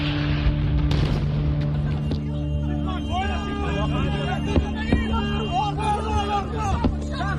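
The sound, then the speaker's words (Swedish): A sudden heavy boom of a bomb striking nearby at a festival near the Gaza–Israel border bursts out early, with a fainter thud later, over a steady engine hum and anxious crowd chatter. “Plötsligt hörs ljudet av bomber som slår ner i närheten.”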